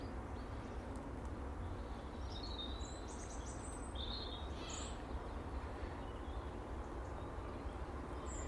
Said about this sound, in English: It's actually very calm and pleasant this morning, just standing here listening to the birds.